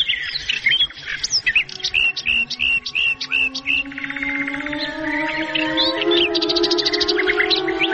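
Birds sing in quick, bright chirps and whistled trills that repeat steadily throughout, clear, over a soft sustained tone in the background.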